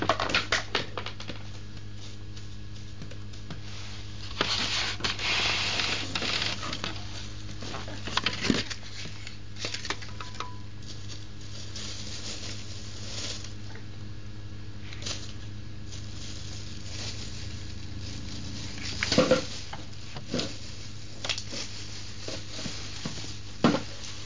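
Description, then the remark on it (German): Someone handles a wastepaper basket: irregular rustling, scraping and light knocks, with a few sharper clunks over a steady low hum. No one speaks. “Gewaltige Manipulation mit dem Papierkorb.”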